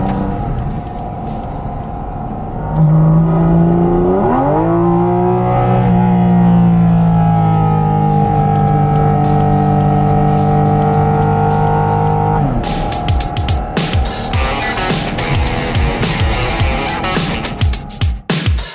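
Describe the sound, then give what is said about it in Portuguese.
The 4.0-litre, six-cylinder, 500-horsepower engine of a new GT4 sports car starts with a low idle, then revs sharply and holds a loud, steady roar for several seconds before dropping back to a rough, crackling burble. No one speaks. “Olha só o ronco do motor.”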